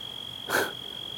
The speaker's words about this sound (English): The crickets are angry.